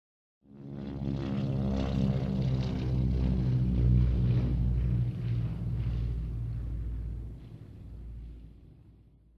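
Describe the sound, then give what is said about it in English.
A propeller aeroplane drones overhead, its low engine rumble rising in and holding steady before slowly fading away as it passes, with no voices present. “There's an aeroplane.”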